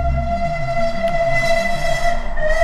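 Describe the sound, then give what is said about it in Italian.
A fast train rushes by with a deep, steady rumble and a sustained, high horn-like tone holding over it, loud throughout, with no voices. “si aggancia al velocissimo treno del Dinamo che passava di lì”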